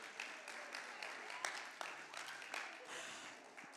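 An audience claps steadily for a few seconds, a dense, crackling wash of many hands with occasional sharper individual claps standing out. The applause is fairly soft and stays even throughout.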